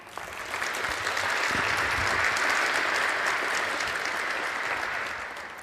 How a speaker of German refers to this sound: Und deswegen bitte ich euch um einen ganz herzlichen Applaus